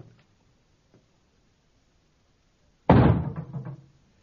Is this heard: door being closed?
yes